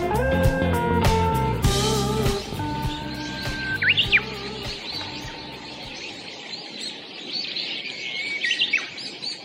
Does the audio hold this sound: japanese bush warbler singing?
yes